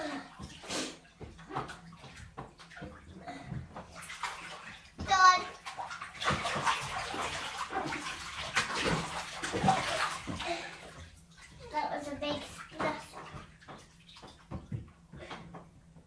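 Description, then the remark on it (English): Water sloshes and splashes in a bubble bath as a child moves around, with a loud burst of splashing in the middle and a child's voice speaking intermittently. “Lie back and get all your bubbles off.”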